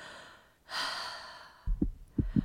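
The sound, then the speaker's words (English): A single deep, airy breath, taken as a patient's lungs and heartbeat are checked, rushes in and slowly fades out, followed by three low, soft thumps. No one speaks. “Well, let me listen to your lungs and heartbeat. Deep breath in.”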